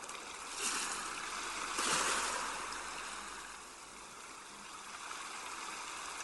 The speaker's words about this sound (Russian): Шум прибоя постепенно стихает.